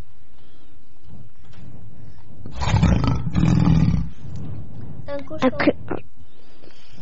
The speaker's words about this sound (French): C'est un lion.